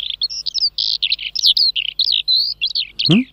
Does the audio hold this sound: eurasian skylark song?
yes